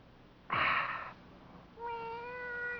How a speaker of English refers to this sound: Oh. The cat?